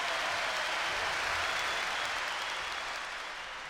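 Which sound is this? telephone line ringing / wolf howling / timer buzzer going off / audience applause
audience applause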